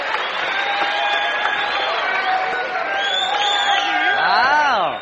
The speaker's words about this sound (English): So what do you say for a great big round of applause for her first visit here at the Ryman Auditorium